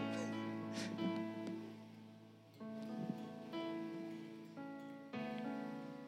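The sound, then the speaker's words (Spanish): Steady rain hisses continuously with no pauses, layered under sustained held tones that shift pitch a few times. The mix stays fairly constant in loudness, and no one speaks. “Y pues, bueno, ahorita ya está lloviendo, pero no llovía.”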